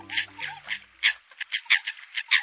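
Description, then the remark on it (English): American coots calling to one another on a still lake on a calm winter morning, cackling, grunting and croaking in a rapid, irregular series of short harsh calls, clear, with no voices. “Ah, the cackling, grunting, and croaking of American coots calling to one another.”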